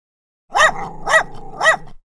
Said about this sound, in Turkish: Köpek onu takip etmiyor ama tekrar havlıyor.